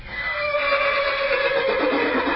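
A horse whinnies loudly in one long, shrill, wavering neigh that fills the whole moment, with no voices over it.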